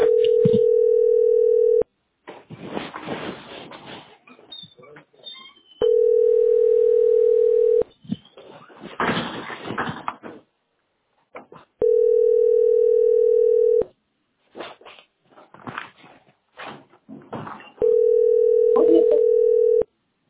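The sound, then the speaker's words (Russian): A telephone ringback tone sounds over a phone line while a caller waits, after about 40 minutes of ringing: four steady, evenly spaced two-second beeps, with muffled background noise and indistinct voices filling the gaps between rings. “Телефону звоню. Вот номер 16. Уже минут 40 у меня на телефоне играет.”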